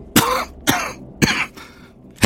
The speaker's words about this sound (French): Elle tousse beaucoup en ce moment.